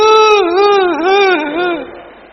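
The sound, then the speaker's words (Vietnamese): A voice imitates a child crying loudly after being given a few strokes of the cane by its mother: one sustained high-pitched sob that wavers up and down in pitch for about two seconds before trailing off. “Lúc đầu thì khóc to lắm, khóc dãy rụa cả lên.”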